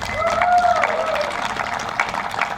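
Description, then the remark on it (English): A crowd breaks into a steady round of applause for Roseburg's 150th birthday (sesquicentennial), proclaimed for October 3, 2022, many hands clapping together in a dense, even patter that holds for a few seconds, with a brief whistle-like cheer near the start. “Will you give Roseburg a round of applause?”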